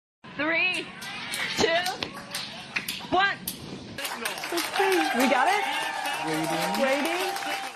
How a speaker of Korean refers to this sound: 2022년 9월 26일 우주선 다트의 지상 관제실에서 환호성이 터져나왔습니다. 미 항공우주국 나사가 발사한 다트가 우주에서 소행성과 충돌하는 데 성공했기 때문입니다.